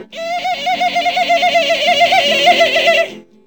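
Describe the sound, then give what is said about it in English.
A voice imitates a chimpanzee call: a loud run of rapid, warbling hoots that rise and fall about six times a second for roughly three seconds, then stop abruptly. “The minor bird says, the chimpanzee says,”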